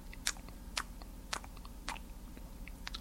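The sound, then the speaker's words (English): A voice imitates wet chewing or sucking mouth noises: a series of smacking clicks roughly every half second, with smaller lip sounds between them and no speech. “And she makes chewing or sucking noises with her mouth, like”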